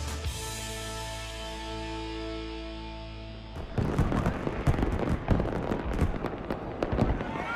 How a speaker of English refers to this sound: The small island between the camps is illuminated by fireworks.